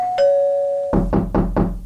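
A two-tone doorbell chime rings out, then four firm, evenly spaced knocks land on the door of a house, loud, with no voices.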